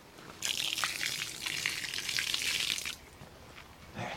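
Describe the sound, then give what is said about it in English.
Steady gush of water as trout are gently released back into a flowing, muddy-bottomed stream, a hissing splash lasting a couple of seconds before it drops away, with a small splash near the end. “Back in the stream, nice and gently, back into the water, and here we go.”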